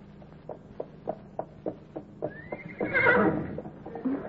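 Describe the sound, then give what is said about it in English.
Horses being ridden in Oklahoma: steady clip-clop of hooves, about two beats a second, gives way to a loud, rising horse whinny that trails off, with the hoofbeats continuing faintly beneath. “That's what they're doing down in Oklahoma, Sergeant. Riding the horses.”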